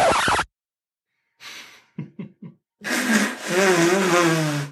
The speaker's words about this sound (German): Ich habe schon 2-3 Mal während der Aufnahme Nase geputzt, aber ich bin zum Fenster gegangen. Ich hoffe, es ist nicht zu sehr drauf. Ich fand's ganz schön laut.